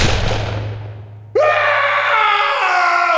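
A low rumbling hum fades out, then a loud, piercing scream bursts in suddenly and holds for nearly two seconds, sustained with no talking.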